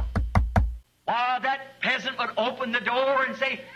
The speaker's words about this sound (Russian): И вот он отодвигает занавеску, а там у двери стоит могущественный фараон. И он стучит.